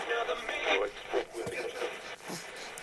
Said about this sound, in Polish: To jest biały szum, który przypomina dziecku okres płodowy. Tak szumi krew w żyłach matki.